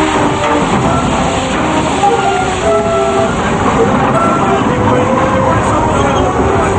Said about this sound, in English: Its headlights shining, steam begins pouring from the engine, and its mighty wheels begin to turn.